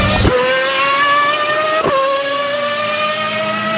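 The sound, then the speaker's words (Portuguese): A historic racing car engine roars loudly at the Classic Days event in central France, its high, steady whine broken by two quick gear shifts as it accelerates. No one speaks. “Mas é um evento parecido com Goodwood na Inglaterra. Carros históricos, pessoal apaixonado por automobilismo.”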